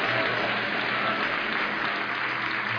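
An audience applauds steadily, a dense, continuous wash of many hands clapping at an even, fairly loud level for the whole stretch, with no voices standing out above it.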